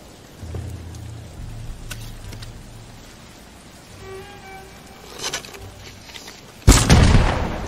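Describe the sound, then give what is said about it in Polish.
Quiet rumbling video game ambience and a brief ringing tone, then a loud explosive arrow blast bursts out near the end and rumbles for a moment. “Czekajcie, a jakbym sobie wziął jeszcze te takie wybuchowe strzały, dobra.”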